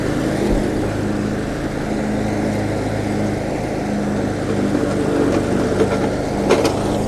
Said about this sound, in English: Okay, just a second here. Turn off the mower blade. Hit the nitrous oxide. And go!